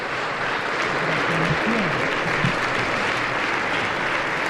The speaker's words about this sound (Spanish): le ha entregado el báculo y se ha sentado, tomando así posesión de la diócesis de Salamanca, recibido con este aplauso que escuchamos.